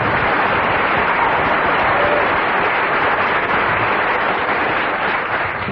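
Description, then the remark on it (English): An audience gives a huge round of applause, clapping steadily for several seconds, a dense, even wash of many hands clapping at once, loud throughout with no voices over it and only a slight easing at the end. “I must invite you to give a huge round of applause to the only member of the quartet who didn't get a single laugh throughout.”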